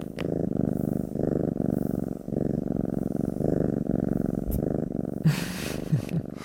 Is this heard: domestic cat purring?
yes